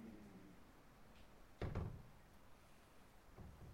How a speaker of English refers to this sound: Bloody door keeps me awake.